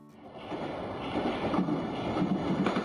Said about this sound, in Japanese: わあ、すごい音だな。 しょうがないよ、線路が近いんだもん。